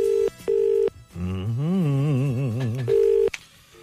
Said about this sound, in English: Yep. One second. Put him on two there. It's ringing.